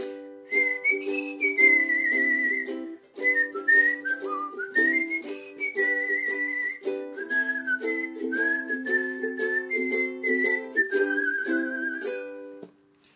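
Someone whistles a clear, wandering tune of a newly written song for about thirteen seconds, the notes gliding and held, fairly loud, over a steady strummed ukulele accompaniment with no talking.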